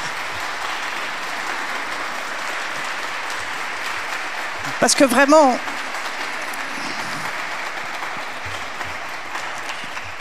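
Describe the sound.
An audience applauds steadily throughout, a dense, even patter of many hands, with a brief whoop or whistle rising midway while a voice talks over the clapping.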